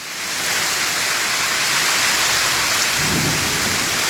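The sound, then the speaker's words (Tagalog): Steady, heavy rain pours down on drought-hit Queensland, Australia, in a dense, continuous hiss, with a low rumble of thunder swelling near the end. No voices are present. “Ito ay isang matagal nang hinihintay na pag-ulan na naging parang musika sa tenga ng mga naghihirap na magsasaka.”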